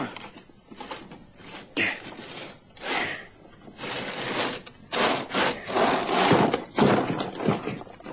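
A heavy solid-steel trapdoor in the middle of a concrete slab about 30 by 30 feet being wrenched open: a run of grinding scrapes and dull thunks in uneven bursts, building in loudness over several seconds, with no voices.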